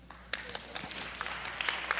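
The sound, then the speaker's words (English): An audience breaks into applause, a dense patter of many hands clapping together, moderately loud and steady for a couple of seconds. “I thought you would clap.”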